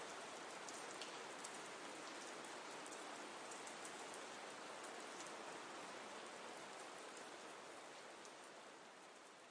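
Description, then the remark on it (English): Steady rain pours down in a dense, continuous hiss, with fine raindrop patter on a surface throughout; it holds an even level and fades slightly toward the end. No voices. “Relaxing rain version”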